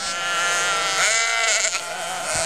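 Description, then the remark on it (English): Sheep bleat at Mint Creek Farm in Stell, Illinois, in a steady, wavering chorus, several overlapping nasal cries sustained across the whole stretch with no pauses, fairly loud and with no one talking. “We started with 50 acres and 10 head of sheep, and now we have sheep and goats, cows and pigs, chickens and ducks”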